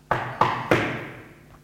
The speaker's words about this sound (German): Also klopfen wir noch einmal an.